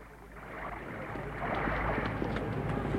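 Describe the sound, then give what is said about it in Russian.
Mr. Chia's boat moves across the water toward the listener, a steady rushing wash of water and low hull noise that swells louder partway through, with no voices. “Лодка господина Чиа.”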